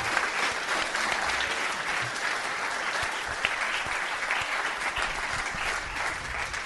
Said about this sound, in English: Well, first of all, we've got to give Matt a big round of applause for the Birdman.